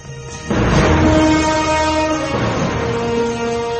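War elephants of King Porus trumpeting as Alexander the Great faces them in battle: a loud, brassy, sustained blare that starts abruptly and holds for over three seconds, with the pitch shifting partway through as overlapping calls merge. No one speaks.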